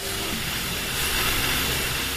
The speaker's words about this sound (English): The static grew louder, filling the restaurant's kitchen, and I turned around to look at the drive-thru windows on the other side of the room.